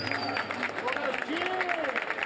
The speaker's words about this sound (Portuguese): Muito obrigado, uma salva de palmas para vocês que estão aqui hoje.